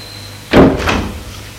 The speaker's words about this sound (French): Une fois qu'elle ait fermé la porte